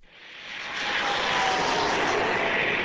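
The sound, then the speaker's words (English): A small Eclipse 500 six-seat jet roars past overhead, its broad engine rush swelling over the first second and then holding steady and loud, with no voices. “The Eclipse 500 is a new six-seat jet.”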